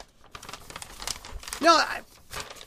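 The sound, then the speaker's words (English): Sheets of blank paper being rattled and crinkled so that it sounds like someone is reading, in a few scattered rustling bursts with a louder flurry midway, a brief voice sound mixed in. “Besides, you almost make me drop my blank paper here that I rattle around so that it sounds like I'm reading something.”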